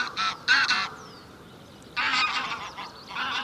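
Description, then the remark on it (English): A barnyard goose honks loudly and repeatedly in harsh, nasal bursts: a quick cluster of calls, a short pause, then another run of honks, with no talking. “Let's hear it for the goose.”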